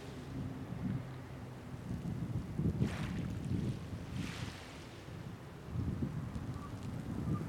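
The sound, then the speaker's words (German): Strong wind buffets the microphone in heavy, continuous low rumbling gusts at a clifftop cemetery about 30 metres above the sea, with a faint wash of sea surf beneath and occasional brighter hissing bursts; no one speaks. “Hier oben auf dem Friedhof ist es sehr, sehr windig.”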